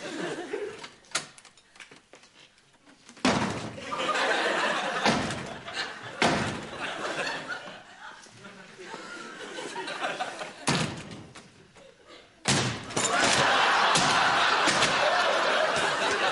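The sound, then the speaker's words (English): A door is slammed again and again, each loud, sharp bang coming at irregular intervals, with muffled voices and a little laughter in the background. “How much did you pay for the door”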